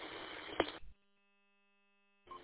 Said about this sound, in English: Zero Hotel Papa, can you turn your Roger beep off, please? Thank you.